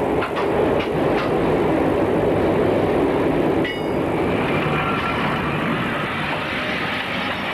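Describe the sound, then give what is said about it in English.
A train brakes as it approaches a signal, its target speed dropping to zero, with a steady loud rumble of wheels on rails and faint high-pitched squealing tones drifting in and out, the noise easing slightly partway through. No voices. “He brakes as the signal gets nearer.”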